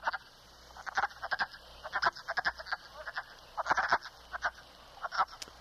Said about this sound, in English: You can hear them. They've got that kind of duck quacking tone, and if you're out and you hear this sort of call, why, you might be listening to wood frog.